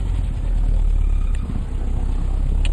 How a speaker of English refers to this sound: The motorcycle escort.